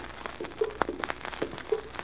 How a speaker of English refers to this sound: Do you hear anything in this attic? Yes. Sounds like water dripping somewhere. That's what I thought.